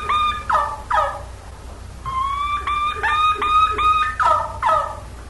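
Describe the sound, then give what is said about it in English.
A wild turkey kee-run call, an all-around call in the fall season: a run of clear, rising whistled peeps followed by raspy yelps, repeated in close succession and fairly loud against a low background rumble. “Let me tell you, that now, here's the key run. That was really good for that day. An all-around call in the fall season.”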